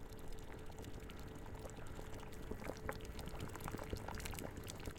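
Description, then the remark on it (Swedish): Water pours steadily into a pot of cooking rice for several seconds, a continuous splashing rush with scattered small bubbling clicks and no voices. “Fyll på med vatten om det behövs.”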